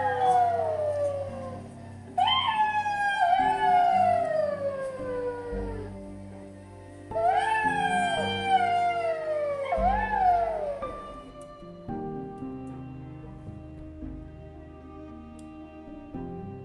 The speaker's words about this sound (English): One day, when he was sitting surrounded by all the other animals, he heard a pack of jackals howling in the distance.